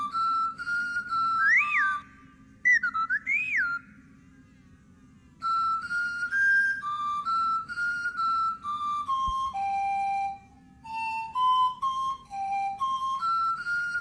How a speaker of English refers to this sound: Wait, Tiny's heard something. And it's coming from Mother's garden. Mother Clanger is whistling it.